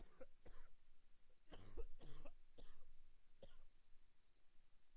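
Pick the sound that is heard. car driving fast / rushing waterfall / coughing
coughing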